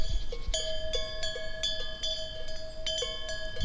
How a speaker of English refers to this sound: And then I looked down and saw cows. It's cowbells, not nuns doing Vespers. Cowbells.